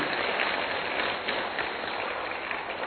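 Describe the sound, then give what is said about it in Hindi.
A crowd claps steadily, a dense and even wash of applause that holds at the same loudness throughout, with no voices cutting through. “जोरदार ताली बजाइए।”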